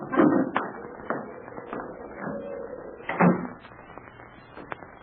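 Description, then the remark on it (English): A door that had blown open is pushed closed with a few wooden knocks and rattles, then shuts with a firmer thump partway through, moderately loud, with faint background noise after. “Hey, the door blew open. I'll shut it.”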